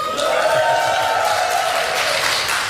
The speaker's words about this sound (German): Ja, Applaus für die beiden heute. Von Bad Nauheim direkt in die Kulturhalle gekommen.